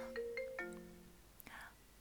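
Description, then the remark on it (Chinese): A phone ringtone for an incoming call from the woman's husband chimes a brief run of clear electronic notes that fade within about a second, followed by a sharp click and a soft rustling breath. “等一下，等一下，我老公来电话了。”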